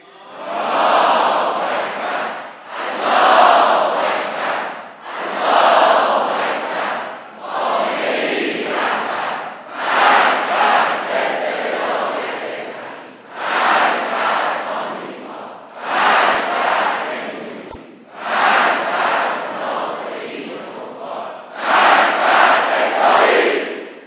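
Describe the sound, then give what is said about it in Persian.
A huge crowd on 13 Aban chants in unison, repeating a loud slogan in steady bursts of about two seconds with short pauses between, roughly ten times, the massed voices roaring throughout. “صدای رعدادهای ملت در 13 آبان امسال بلند شد. شنیدید؟”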